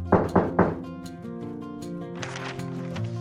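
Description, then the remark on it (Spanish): Three quick, solid knocks on a door in an even rhythm, followed by soft sustained music playing on its own. “Espero que llamen a mi puerta.”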